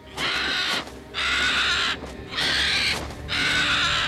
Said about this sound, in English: As soon as the sannyasi appeared, Sita heard a bird scream. She looked up. Jatayu was perched in the tree above her, his eyes locked on the old man.